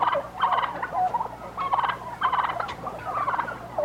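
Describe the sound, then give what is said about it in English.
Turkeys gobble in repeated rapid, warbling bursts, roughly four rattling calls in under four seconds, loud, with no talking. “It's mostly just him singing with turkeys.”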